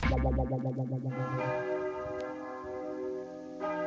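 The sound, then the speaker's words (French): Cathedral bells ring out together at the priest's last words after a morning mass blessing pilgrims, their deep resonant tones overlapping and pulsing at first, then blending into a sustained, shimmering hum. Fairly loud, with no voices. “Les cloches de la cathédrale retentirent aux derniers mots du prêtre.”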